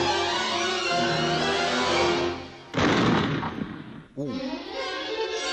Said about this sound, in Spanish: ¡Bombazo! Ese es el último disparo.